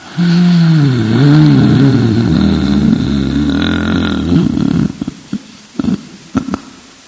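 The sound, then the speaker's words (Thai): A voice mimics labored, gasping breathing of someone unable to breathe, feeling like climbing a mountain: a long, wavering, strained groan of an inhale for several seconds, then a few short, sharp breathy catches, loud. “น้องชายก็นอนหลับเราก็หลับไม่หลับมันหายใจไม่ออกหายใจเข้าเหมือนรู้สึกเหมือนกับขึ้นภูเขา”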